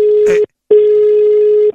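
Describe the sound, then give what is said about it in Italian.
Steady telephone line tones sound loudly before a phone call, a short beep followed by a pause and then a longer sustained tone, with a brief burst of something noisy over the first beep. “Sentiamo qua cosa ci ispirerà la prossima telefonata, vero figlio?”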